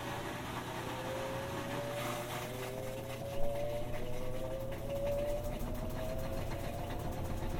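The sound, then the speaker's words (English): A washing machine pump runs steadily, draining water with a constant low mechanical hum and a faint whine that slowly rises in pitch. A single soft knock sounds midway; no one speaks. “Pumps on again, probably getting rid of the water.”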